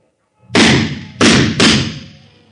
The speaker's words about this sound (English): Open the door, I'll break it down.